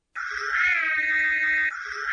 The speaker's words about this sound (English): It's the Ecto-1. Yep. It was a siren.